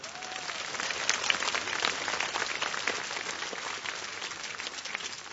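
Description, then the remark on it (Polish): Sustained applause from a sizable audience at a pilgrimage gathering at Jasna Góra, welcoming the Father Provincial: a dense, steady wash of many hands clapping at once, moderately loud and continuous throughout with no voices standing out. “Bóg zapłać za oklaski, Bóg zapłać za dobre słowo.”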